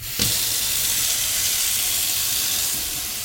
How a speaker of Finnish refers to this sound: Tiedätkö, mikä pieni ongelma? No, panin kuuman veden valumaan.